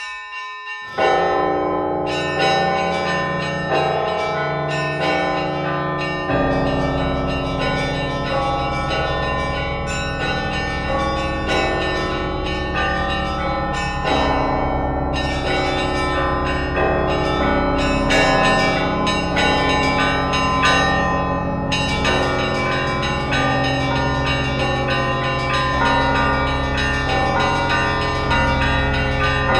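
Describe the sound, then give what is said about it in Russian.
A full peal of church bells from a belfry on Valaam Island, whose bells were only recently acquired, rings loud, many bells struck in a steady repeating pattern, their deep and bright tones overlapping and sustaining continuously for half a minute with no voices. “У меня есть звон, который я прошлым летом записывал со студентами-звукорежиссерами на острове Валаам.”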